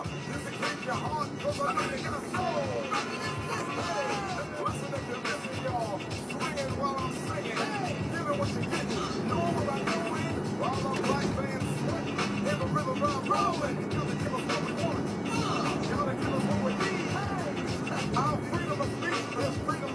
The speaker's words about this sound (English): Getting on the freeway, sandwiched between two large trucks. One of my favorite things.